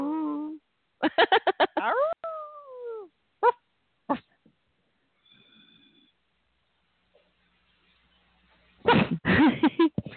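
dog barking

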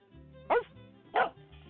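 dog barking

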